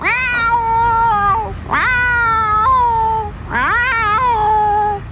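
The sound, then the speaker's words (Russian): A cat, Murzik, yowls loudly three times in a row from inside a box on a bus, each cry long, drawn-out and wailing, rising sharply at the start and sagging at the end, with no talking. “Тут-то Мурзик и завопил, что есть мочи.”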